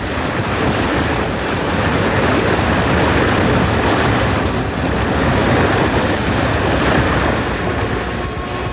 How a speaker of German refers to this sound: Als das Motorboot den Strand erreichte